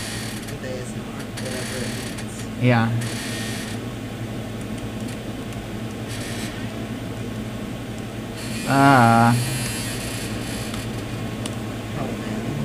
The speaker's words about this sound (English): I'm curious, as you entertain us with our chair creaking sounds.